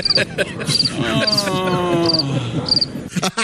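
A cricket chirps in four short, evenly spaced bursts, high and clear, while a voice carries on underneath, laughing or talking at a moderate level.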